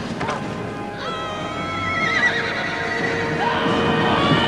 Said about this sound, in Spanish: Un caballo se encabrita frente a Pippin.